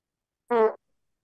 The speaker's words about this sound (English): Who farted? I heard that.